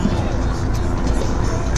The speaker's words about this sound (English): covered pickup truck that wanted to enter berth 32, just a regular personal pickup truck, and there was this about 150, 200 picketers, and so it's moved on and parked next to the gate.